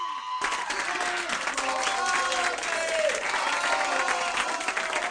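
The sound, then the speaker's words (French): A hall full of people breaks into loud, sustained applause, dense clapping with a few voices cheering through it, starting abruptly after a brief moment and continuing steadily to the end. “de toute la salle, unanime, tonnant comme 20 pouches à rangoguette, retentit une salle d'applaudissements.”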